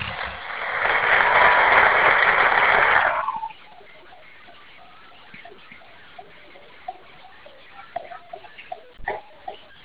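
A short burst of dense audience applause lasts about three seconds, loud and steady, then cuts off to near quiet with only a few faint scattered clicks.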